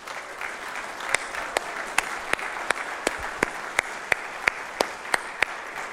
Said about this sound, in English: All right, so let's give these graduates a round of applause.